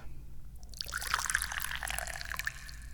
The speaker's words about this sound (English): I'm the chairman of the Dubious Goals Committee, and I'm pouring some yummy tea.